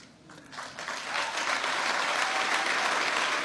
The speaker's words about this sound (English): That's an interesting point for the White House press correspondents to applaud, right?